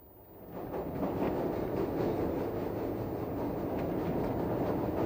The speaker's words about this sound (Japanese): 帰りの電車の中で。